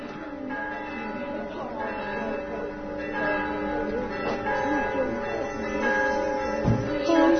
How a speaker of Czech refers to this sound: Da poslušamo još malo zvona.